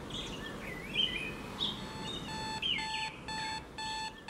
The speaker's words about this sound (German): Es ist 7 Uhr in der Früh in Tübingen. Der Wecker klingelt.